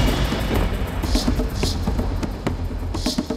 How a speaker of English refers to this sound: thunder and lightning in the night sky.